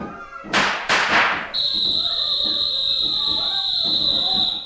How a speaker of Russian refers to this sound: Кто стрелял?